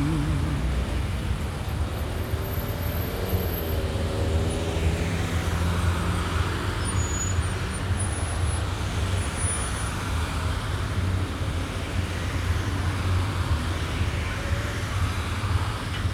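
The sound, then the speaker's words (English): A city bus rumbles amid street traffic as it arrives to pick someone up, its low engine drone steady and continuous, with a faint high whine above the hum and no one talking. “There's my bus done come to get me.”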